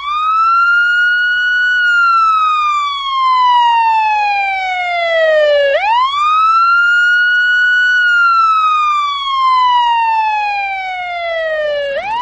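An ambulance siren wails loudly, its pitch sliding slowly down and sweeping back up in two long cycles, with no voices over it.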